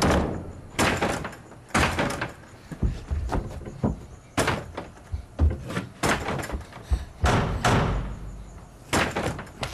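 Heavy, repeated banging on a door, a series of loud thuds and slams in an irregular, urgent rhythm, with no voices.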